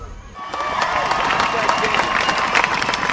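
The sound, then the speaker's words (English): A crowd at a parade in Westport for the town's boys' team cheers and applauds steadily, with dense clapping and a wash of shouting voices that swells after a brief quieter start and stays loud to the end. The rain held off for the parade. “People celebrated like a crowd, knowing that the next day would be the first day of school, and a crowd that was thankful that the rain held off for their parade.”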